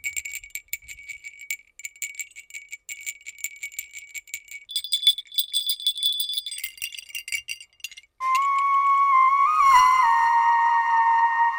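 A Hungarian sheepdog bell, the kind given to dogs that guard sheep, shaken in quick, rattling jingles for several seconds, then struck into a loud, sustained metallic ring with a steady mid-high tone. No one speaks.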